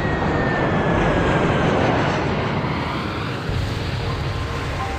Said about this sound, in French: Et l'avion, là, a décroché, on est passé de 100 pieds à 50 pieds. Et deux secondes après, en fait, l'avion touchait le sol. Là, l'avion raccélère et on se plante.